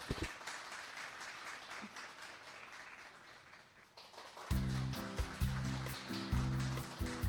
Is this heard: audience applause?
yes